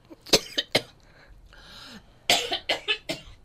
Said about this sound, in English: And it also makes you cough. We probably need to play some music, because I can't talk for a couple of minutes.